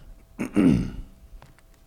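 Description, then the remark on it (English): A single rough throat-clearing cough, a short burst followed by a gravelly rasp that fades within half a second, then quiet with faint clicks. “I'll see if I can maybe turn this thing off if I'm getting ready to cough.”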